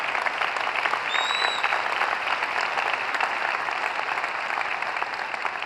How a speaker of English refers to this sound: Go ahead, you clap.